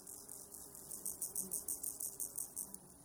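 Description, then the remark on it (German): Crickets chirp in a meadow in a steady, rapid pulsing rhythm, high-pitched, with a low outdoor rumble underneath and no voices. “Die natürlichen Wiesengeräusche komponiert sie neu und ordnet diese nach einer neuen Struktur.”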